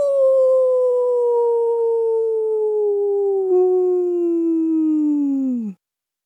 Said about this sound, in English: They hear a long howl.